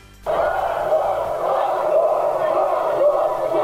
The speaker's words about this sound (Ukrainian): Крики, ганьба і геть, звинувачення у фашизмі і вимоги вигнати російського консула з України – це мітинг під стінами Генерального консульства Росії в Криму, скликаний Меджлісом кримсько-татарського народу.